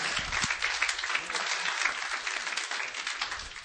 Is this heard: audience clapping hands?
yes